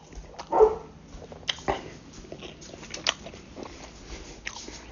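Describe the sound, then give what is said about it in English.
A dog lets out one loud, high yelping bark, then whimpers faintly over scattered clicks and thumps. No one speaks. “Oh, let the dog in.”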